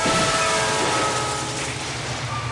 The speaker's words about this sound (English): Hello, Train.